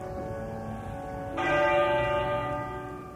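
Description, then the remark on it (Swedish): A single muffled strike of the church bell of Westminster Abbey, London, tolled once a minute during a funeral, rings out, its dull, rich tone blooming suddenly and then slowly fading, heard alone over a low hum of background noise. “Och med dämpad klang slog kyrkklockan i Westminster Abbey en gång i minuten.”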